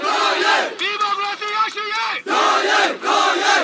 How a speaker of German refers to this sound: Zehntausende marschieren schon den zweiten Tag in Folge durch Yangon, die größte Stadt Myanmars. Lang lebe Mutter Su, rufen sie, oder nieder mit der Militärdiktatur.